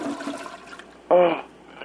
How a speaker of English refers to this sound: You know, I'm hearing a toilet flushing. This is crazy. I was trying to listen to what the lady said. Okay. Yeah, can maybe you muffle the phone while you're using the toilet?